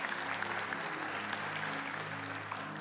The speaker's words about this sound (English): You could clap for that. Yeah.